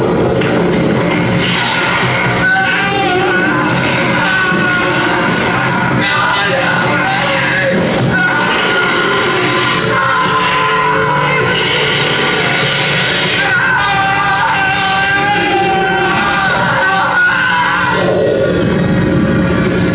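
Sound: crowd of people screaming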